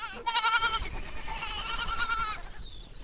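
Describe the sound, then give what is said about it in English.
Several baby goats in a pen of 18 kids bleat in overlapping, wavering cries, one call running into the next for a few seconds, followed by a higher, thinner bleat at the end. “Standing next to the pen of kids, I could see Anne's point. Baby goats are really cute.”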